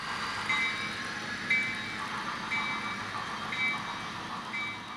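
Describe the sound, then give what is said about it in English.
A model train runs steadily along a sophisticated model railroad layout of a railroad club in a two-story red brick building on Parsons Avenue, with a continuous whirring rumble, punctuated by faint, regular high-pitched squeals roughly once a second. No one speaks. “Members are too busy maneuvering model trains along an incredibly sophisticated railroad.”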